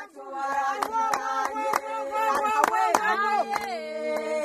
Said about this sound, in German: Aber plötzlich beginnt eine rhythmisch in die Hände zu klatschen. Die anderen stimmen ein.